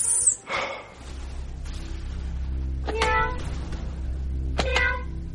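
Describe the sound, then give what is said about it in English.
A voice imitates a cat, giving three drawn-out meows spaced a second or two apart, clear over a steady low background hum. “Meow. Meow. Meow. Stop it, Jeffy.”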